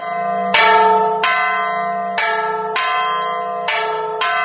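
The large bells of the cathedral bell tower in Salamanca, Spain, peal in full swing, rich ringing strikes overlapping at an uneven rhythm, each tone sustaining loudly and blending into a continuous clangorous wash with no voices present.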